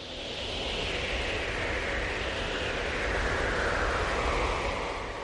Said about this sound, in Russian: Было слышно только угрюмое завывание ветра.